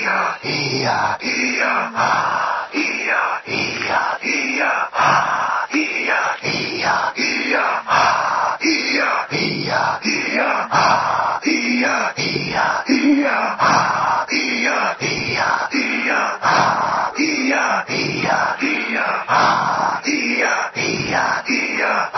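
Forceful, rhythmic shaman breathing exercise: loud, rapid huffing breaths in a steady repeating pattern, continuing nonstop for the whole stretch with no words spoken.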